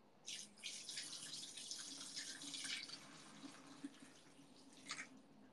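Liquid pours steadily into a container for several seconds, a continuous splashing hiss with a few brief gurgles and drips near the end. No one speaks.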